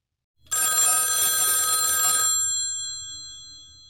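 A single loud burst of an old-style telephone bell ringing, a bright metallic clatter lasting about two seconds before cutting off, leaving a brief ringing decay into quiet.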